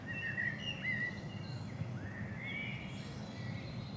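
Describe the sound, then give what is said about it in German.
Several birds chirp and warble in spring in Würgau in Franconian Switzerland, Germany, below the Würgauer Berg, their thin, sliding calls overlapping across a quiet outdoor background with a low, steady rumble underneath and no one speaking. “Man hört sogar die Vögel zwitschern.”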